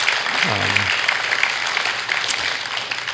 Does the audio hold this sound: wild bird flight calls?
no